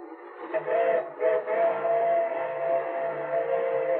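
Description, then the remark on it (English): A freight train's whistle blows in one long, steady, chord-like tone as the train comes around a curve on tracks in rolling countryside near Cortland; it swells in after a brief start and holds loud and continuous to the end, with no one talking. “Oh, it's only a freight train.”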